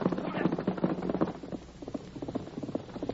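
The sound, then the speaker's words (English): A horse gallops along a road in pursuit of a man: hooves in a fast, steady rhythm of muffled thuds, continuous for the whole few seconds, with a slightly boomy, dull tone. “Get going, horse. Get after him.”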